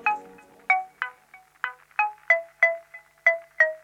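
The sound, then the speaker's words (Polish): A polyphonic phone ringtone plays a bright, bell-like melody of short plucked notes at a quick, steady pace, each note ringing briefly before the next, with no voices. “Czy są dziś jeszcze jednostki zdziwione tym, że źródłem szczęścia może być polifoniczny dzwonek?”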